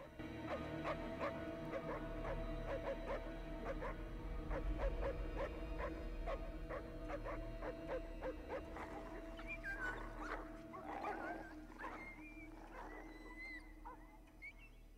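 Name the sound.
distant dogs barking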